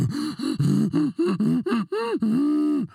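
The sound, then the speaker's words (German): A voice imitates a monkey: a quick series of loud, breathy hoots swooping up and down in pitch, ending in one longer drawn-out call, with no other talking. “Das ist ein Affe. Oder zumindest sollte es einer sein.”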